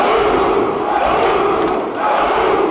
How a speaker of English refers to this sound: And so I come running into the gym and everybody's chanting, Moose, Moose, Moose.